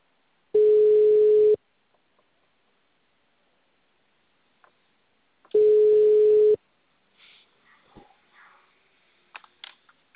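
Two steady electronic ringback tones, each about a second long and spaced several seconds apart, sound over a phone line as a phone call is placed, followed by faint rustling and small clicks.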